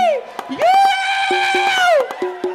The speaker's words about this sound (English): These niggas in here clapping.